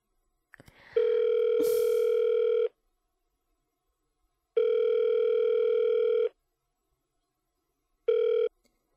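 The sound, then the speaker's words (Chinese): A telephone ringback tone repeats while a call to a husband connects: three steady electronic buzzing tones of about two seconds each, separated by silence, the last one cut short. Clear, with no talking. “哎呀，还要给我老公打电话。”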